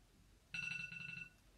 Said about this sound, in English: That's the bell to remind me it's time to work with my Helpmeet Army and Spiritual Warfare Arsenal Training Group.